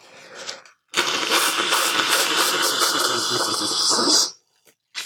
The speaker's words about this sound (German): Meine Nase wird immer zuer. Irgendwann kommt mir so eine Klammer auf die Nase. Ich putze mir nochmal die Nase. Das klingt jetzt für euch sehr schön.